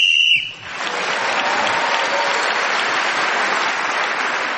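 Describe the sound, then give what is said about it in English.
A short, shrill whistle blast ends the round while Clement Freud is speaking, gaining him an extra point, then gives way to loud, sustained applause from an audience that carries on steadily to the end. “So Clement Freud again was speaking as a whistle when gained an extra point.”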